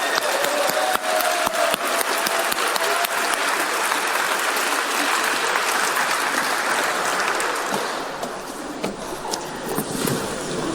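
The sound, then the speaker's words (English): An audience applauds for about ten seconds, a dense, steady wash of many hands clapping at a constant loud level that thins slightly toward the end. “Hey, round of applause.”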